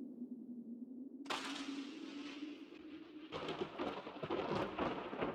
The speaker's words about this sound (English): Though there is always thunder after lightning, it can only be heard within a few miles of the storm